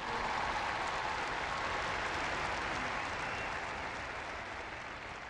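Sustained applause from a large audience for catechists, called for by the Pope, a dense steady wash of clapping that holds at an even level for several seconds with no talking over it.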